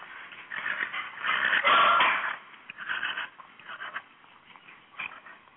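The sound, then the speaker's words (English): A small corgi dog named Jack barks and yaps repeatedly in uneven bursts, with a loud, sustained stretch of high-pitched barking in the middle before shorter yips trail off. “I'm calling for Horses in the Morning, and I had a message from my elderly pony Pebbles and my little corgi boy Jack.”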